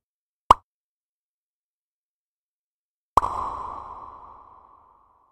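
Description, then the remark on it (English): A single dry pop, then after a pause the same pop returns processed through the Umverb synthetic reverb plugin, with a full, smooth reverb tail that washes out and fades over about two seconds. No one speaks. “Its sound is full and smooth without that strange tinny character that many synthetic reverbs have.”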